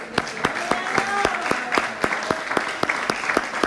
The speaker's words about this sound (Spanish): El aplauso.